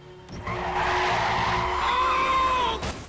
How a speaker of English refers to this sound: Adam slams on the Cadillac's brakes.